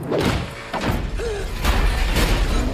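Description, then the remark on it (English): A heavy door thuds shut with a deep, booming impact, followed by a couple more solid knocks and a low rumble over about three seconds. No one speaks. “Wow, that's an expensive door.”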